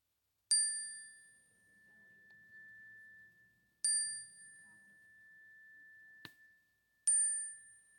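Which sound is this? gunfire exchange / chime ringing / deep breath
chime ringing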